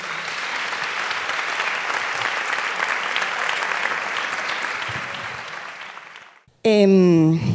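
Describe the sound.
A large audience at the Prado claps steadily for about six seconds for a person being honoured, a dense, even roar of hands that fades out, then a single voice starts speaking.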